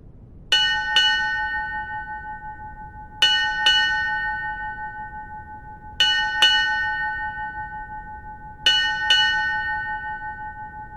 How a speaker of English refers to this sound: 8 bells.